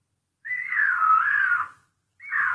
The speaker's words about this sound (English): I don't think I've ever heard a mountain lion scream.